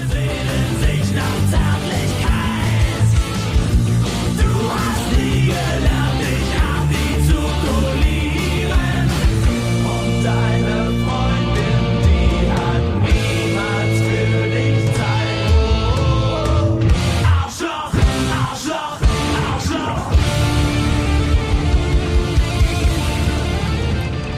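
A loud rock song plays throughout, a driving guitar riff over a dense full-band mix with steady rhythmic hits and a brief drop near the end before it picks back up.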